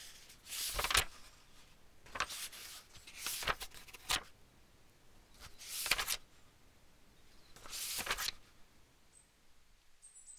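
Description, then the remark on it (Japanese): Thin pages of a hardcover book rustle and slide as they are turned, a series of about five soft, airy swishes spaced a second or two apart, quiet with no talking. “普段は何気なくページを手探っていますけど、ほら、意識してみるとこの軽やかな音も心地いいんですよね。薄いページが擦り合う音、文学的な気分に浸れます。”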